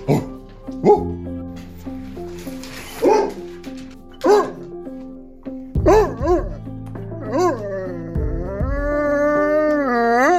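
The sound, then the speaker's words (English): Malik's dogs bark a few times, then break into long, wavering howls that rise and fall together, building steadily louder toward the end. “Or Malik, whose dogs made a special cameo. Could you howl for Flora?”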